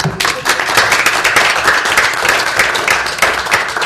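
A crowd applauds a report at a City and Borough of Juneau Assembly meeting, many hands clapping in a dense, continuous patter that stays loud and even for a few seconds, with no voices rising above it.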